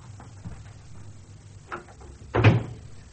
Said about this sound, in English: Yes, the drawing room door.